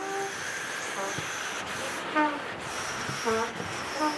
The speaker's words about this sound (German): Dann machen wir den gleichen Choral nur mit Luft, also ohne Klang. Es nimmt einfach das Instrument und es bläst die Luft durch, gell?